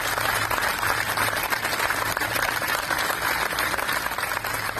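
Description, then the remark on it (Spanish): A large crowd applauds steadily, the dense clapping forming a continuous, loud wash of sound with no pauses, carried by health workers, all kinds of staff and patients clapping together at Hospital Gregorio Marañón in Madrid, a tribute one year into the COVID pandemic. “Son los aplausos de los profesionales sanitarios, de trabajadores de todo tipo y pacientes también del Hospital Gregorio Marañón de Madrid.”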